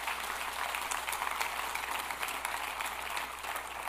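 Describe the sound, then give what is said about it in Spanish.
An audience applauds God, called the King, at the preacher's request. A dense wash of many hands claps at a fairly even loudness for several seconds, with no one speaking over it. “Dale un aplauso bien fuerte al Rey, por favor.”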